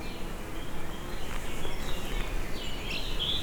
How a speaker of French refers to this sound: La moyenne montagne, ici, s'est remplie d'oiseaux, d'arbres, et de feuillage. Le ciel est nuageux, la chaleur intense.